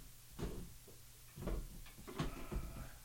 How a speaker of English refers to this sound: Let me move everything. We're gonna move this chair.